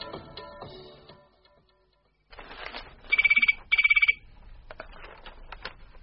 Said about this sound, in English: Come on, to answer the phone.